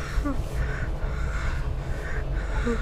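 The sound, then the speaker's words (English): Heavy, rhythmic breathing with steady, loud, rushing breaths and gasps repeating about every half second, set against a continuous low rumble and with no speech. “Keep breathing.”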